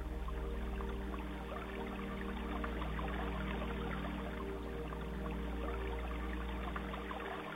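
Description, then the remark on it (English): Steady, continuous rush of water flowing over smooth stones and pebbles in a creek bed, with a constant low hum underneath; no voices, unchanging throughout. “You close your eyes and listen to the soothing sound of the water, feeling totally relaxed.”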